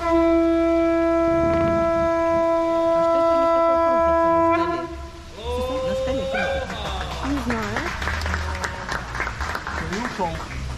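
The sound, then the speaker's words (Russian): A conch shell blown by a local Hawaiian man in one long, steady, brassy tone for several seconds, then breaking off and wavering upward in a couple of shorter bends. Crowd chatter and clapping continue beneath it. “А, друзья, это он гудит в раковину.”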